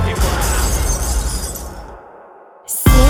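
A loud burst of breaking glass crashes and scatters for a couple of seconds, then fades into near silence before music kicks back in.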